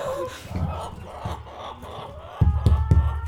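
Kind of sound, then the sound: bird, chickens clucking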